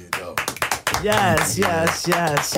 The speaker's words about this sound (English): Yes, let's clap it up. Big.